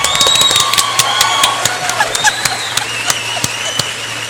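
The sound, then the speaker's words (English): A crowd claps steadily for a few seconds, a dense crackle of many hands with sharper individual claps standing out, and no voices over it. “Big applause for you.”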